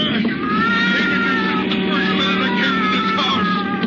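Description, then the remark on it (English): A cat, Lady Susie, yowls and screeches loudly and continuously, writhing and scratching while being pushed toward a furnace, her strained cries wavering up and down in pitch over a low steady background rumble. “He was trying to push poor Lady Susie into the furnace. She was writhing and scratching with all that might.”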